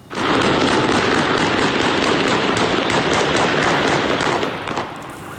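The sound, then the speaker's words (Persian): Rapid gunfire crackles almost nonstop through a dense wall of loud, chaotic outdoor noise, the pops blurring together before easing slightly at the very end, as security forces fire guns and tear gas at protesters in Khorramshahr during protests over salty and scarce water. “بنابر ویدیوهایی که به رادیو فردا رسیده، ماموران امنیتی اقدام به تیراندازی و شلیک گاز اشک‌آور به سوی معترضان کردند.”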